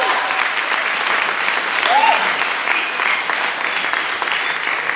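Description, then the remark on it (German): Steady audience applause for the industrial architect fills the whole stretch, a dense wash of many hands clapping at an even, sustained loudness with no pauses, with a brief rising whistle or cheer partway through. “Ich frage in der Zwischenzeit nach dem Applaus für den Industriearchitekten.”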